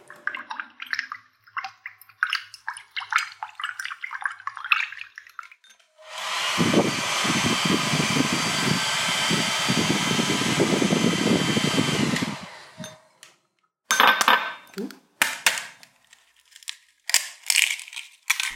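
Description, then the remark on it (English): Irregular splashing and sloshing of water, then a hairdryer blows steadily for several seconds before cutting off and the splashing resumes. No one speaks. “So it sounded like water being splooshed about and a Hoover? Not a Hoover. Not a Hoover. It's a hairdryer, right?”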